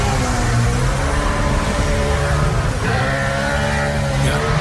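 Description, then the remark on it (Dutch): Loud car exhausts rev and drone together as a small tribute to Ken Block, in a continuous, throaty roar with a slight wavering pitch, filling the whole stretch without a break and with no talking. “Ik wil een beetje zingen met ze uitlaten.”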